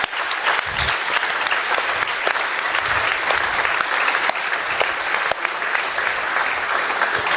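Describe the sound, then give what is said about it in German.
An audience claps steadily for several seconds for the Linux Hotel in Essen, a partner of the organisation, a dense, even wash of many hands with no pauses, holding at a consistent loudness throughout without any voices on top. “Einen ganz, ganz großen Applaus für die.”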